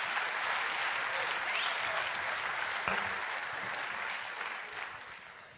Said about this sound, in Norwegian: Ta igjen en stor applaus! En enda bedre applaus, kom igjen!